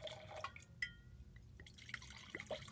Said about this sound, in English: Pour me a splash. Okay. Oh, there we go. Yeah.